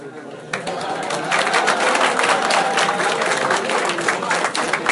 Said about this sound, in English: It's always nice to get the applause before you speak. One never knows what the reaction will be when you're finished.